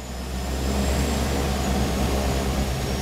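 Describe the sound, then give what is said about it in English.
An airplane on a one-hour flight south to Malé, Maldives, flies with a steady, loud engine drone and deep low rumble, plus a faint high whine. The sound holds constant with no voices. “Just an hour's plane ride takes me south to Malé, the densely populated and lively capital of the Maldives.”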